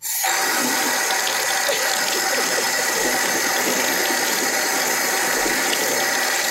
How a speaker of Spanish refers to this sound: ¿Esto qué es? Que abre el grifo, claro.